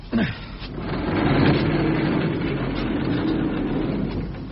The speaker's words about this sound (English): This is the garage, Mr. Ma. If you wouldn't mind just lifting the door.